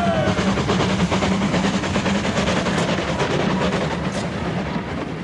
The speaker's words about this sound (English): Hold on. That's a goods train. The king wouldn't be on that.